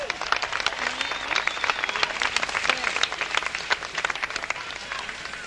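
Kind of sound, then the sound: crowd, audience clapping and applause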